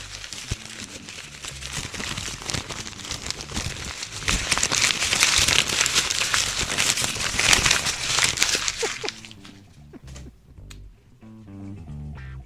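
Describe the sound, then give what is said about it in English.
Loud, dense crinkling and crackling as a sheet of paper that had been crumpled and thrown across the room is unfolded and smoothed out, continuous for about nine seconds, then tapering into quieter rustles as a voice begins speaking near the end. “Now I just retrieved it, and I have to uncrumple it.”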